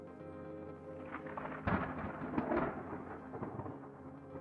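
A thunderstorm rumbles, with a sudden crack of thunder that rolls on over a steady wash of rain. No voices are heard.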